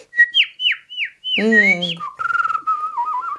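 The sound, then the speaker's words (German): Someone whistles a short, lively tune: a few quick swooping chirps, then a fuller warbling phrase and a trilling, wavering line to finish. “Ja, dann pfeif mir doch kurz noch was zum Schluss”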